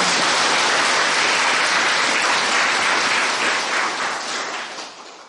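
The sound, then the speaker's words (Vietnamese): A crowd claps loudly and steadily, a dense wash of many hands that holds strong for about four seconds and then gradually thins and fades out. No one speaks. “Nếu phải cho cái vỗ tay cho vui vẻ nè.”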